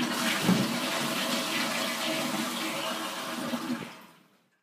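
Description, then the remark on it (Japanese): A toilet in a restroom stall is flushed after sweat-soaked toilet paper is thrown into the bowl, one continuous rushing, gurgling surge of water lasting about four seconds, loud and steady before draining away abruptly into silence. “ついで首筋にも流れるそれを拭い、汗でぐっしょりとなったトイレットペーパーを便器の中に投げ捨てた。”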